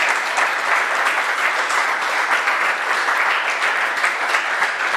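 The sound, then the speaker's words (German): Steady, sustained applause from an audience for Anne Roth, a dense wash of many hands clapping at an even loudness for the whole stretch, with no voices standing out. “Großen Applaus für Anne Roth.”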